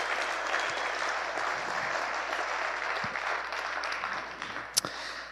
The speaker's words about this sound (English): And I think another round of applause for the Taylor and Kavanaugh family for pulling it off.